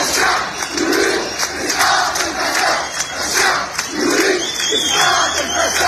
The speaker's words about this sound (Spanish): No queremos mundial. Queremos sanidad, es el grito que más se ha escuchado estos días en las mayores movilizaciones de los últimos años contra el gobierno en Marruecos.